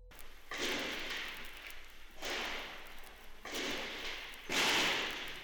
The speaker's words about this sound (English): It's a few minutes long, and it's just the sound of gunfire in the station offices. It didn't come with any notes, just a name that was attack on the PBS studios.